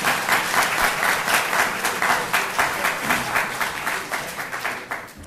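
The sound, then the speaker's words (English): A crowd applauds steadily for several seconds after a candidate's answer at a candidates' debate, dense overlapping claps at a fairly strong, even level, tapering slightly toward the end. “I do want to caution the audience to not be overly exuberant with the applause.”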